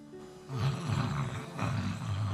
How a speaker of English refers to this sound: Can I just ask you to make some snoring noise?